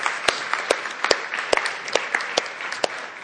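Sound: round of applause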